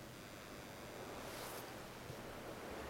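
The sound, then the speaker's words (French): Waves wash against a sailboat's hull and sometimes burst onto the deck under a steady roar of wind and sea, with one brighter splash surging midway through. No one speaks. “Les vagues explosent parfois sur le pont dans un fracas étourdissant.”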